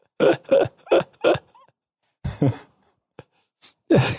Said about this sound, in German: Entschuldigung. Entschuldigung, dass ich rülps. Aber das ist wirklich du merkst, die leckere Geroldsteiner Apfelsaftschorle.